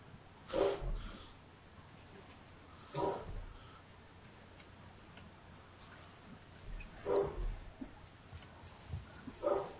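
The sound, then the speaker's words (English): A dog barks four times at uneven intervals, each bark short and muffled, with quiet background noise and no talking in between. “Someone's dog likes the torture porn. My dog.”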